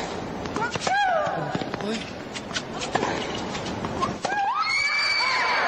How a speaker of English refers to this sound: Yes. That's as loud as it gets. Whoa. Surprised I didn't shatter a couple of windows. She's woken up the crowd. Yeah, she woke up the crowd with that grunt. That grunt rated really high, Bob.